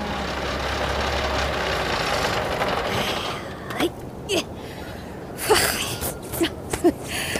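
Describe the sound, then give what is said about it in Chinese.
A borrowed tractor, used to haul back 1000 tree saplings over a long road in hot weather, chugs loudly with a steady low rumble for about three seconds, then its engine cuts out, leaving a quieter background with a few brief, sharp knocks. “借了辆拖拉机，我就把它给运回来了。”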